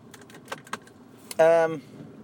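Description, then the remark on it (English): A few light clicks and jangles of keys, then a loud, brief whirring hum as a parked car's engine is cranked and starts up in a car park, lasting under half a second. “Should we start the car?”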